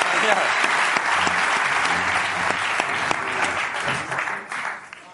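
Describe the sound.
A crowd applauds steadily, a dense wash of clapping that holds for about five seconds before thinning slightly at the end, with some faint voices mixed underneath.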